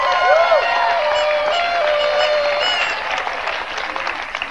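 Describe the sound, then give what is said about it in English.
A crowd breaks into steady, loud applause as a hand clap for the Messiah, with scattered whoops and cheering voices rising over the clapping at first, then dense clapping carrying on alone for several seconds. “Give Him a hand clap.”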